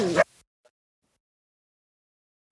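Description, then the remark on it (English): A single sharp dog bark rings out at the very start, loud, then cuts off into near silence with only a faint tick afterward. “I have three dogs at home. I completely understand. Mine's going off in the background too.”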